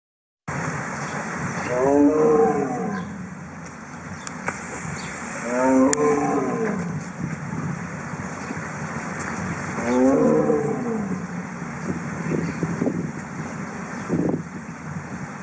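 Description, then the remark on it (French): A Siberian tiger roars three times in a slow, even rhythm, each call a loud, deep, rasping bellow, with low rumbling breaths filling the gaps between them. “Le cri appartenait à un animal imposant, orangé et parcouru de rayures. Je parle évidemment du tigre.”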